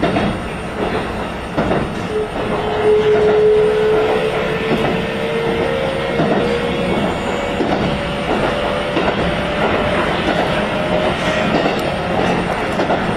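A local train running through on the Asakusa Line and Keikyu Line rolls along the rails with a steady low rumble and rattle, while a thin high-pitched wheel squeal rises and holds across the middle of the run.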